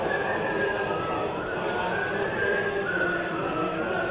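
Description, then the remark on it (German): Scottish members of parliament in the House of Commons whistling and humming the European anthem together during the Brexit votes: sustained wavering tones held at a steady volume over a dense murmur of many voices. “Während der Brexit-Abstimmungen im englischen Unterhaus pfeifen und summen die schottischen Abgeordneten die Europa-Hymne.”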